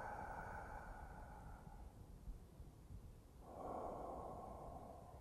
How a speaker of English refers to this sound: See, the breathing. See, inhale. Now, as you inhale, feel it move through all of the body, through the legs, the arms, up to the head. See.